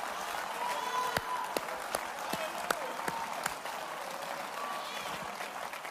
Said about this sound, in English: I see her clapping her hands.